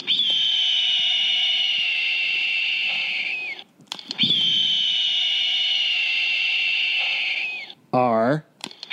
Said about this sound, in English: I think you maybe over bleeped that. Did I? Yeah. Did I? I just wanted to leave out anything that potentially could that be a spoiler.